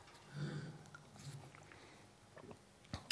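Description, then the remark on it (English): Quiet sipping of water by a speaker: soft slurping and swallowing mouth noises over a few seconds, ending with a small click, with no one talking. “Just have a sip of water.”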